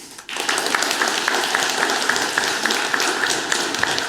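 An audience breaks into steady applause after a brief quiet moment, a dense wash of many hands clapping at an even level, with a few sharper claps standing out.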